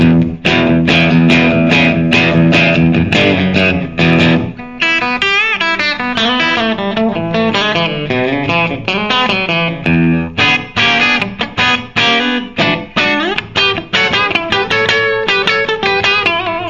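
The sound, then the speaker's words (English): Bright, biting electric guitar on the treble pickup, loud and driven, chopping out rhythmic chords with a more melodic, ringing run in the middle before the choppy strumming returns. No voices. “Now that's back to the treble pickup.”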